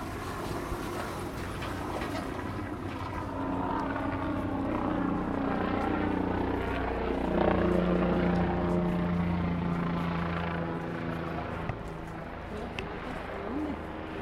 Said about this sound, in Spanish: Arriba se escucha el sobrevuelo del helicóptero en la población de Santo Tomás Ajusco.